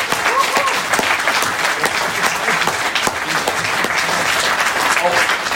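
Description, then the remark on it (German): Sustained audience applause for a company's achievement, a dense, steady wash of many hands clapping at an even loudness throughout, with a few faint voices mixed in underneath. “Und dazu auch von meiner Seite nochmal ein riesen, riesen Dankeschön, einen riesen Applaus für Ihre tolle Leistung.”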